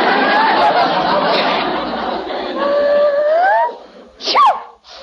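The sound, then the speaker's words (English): A woman lets out a single sharp sneeze near the end, loud, following several seconds of breathy, strained vocal sounds. “She wasn't sneezing before, and the dog was here all the time.”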